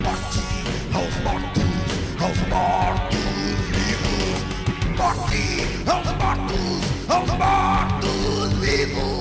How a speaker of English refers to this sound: This video is 47 seconds long and consists of Dracula and a cigarette-smoking skull yelling at us in Portuguese. And a guitar solo.